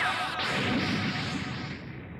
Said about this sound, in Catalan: Bola de foc! Ah!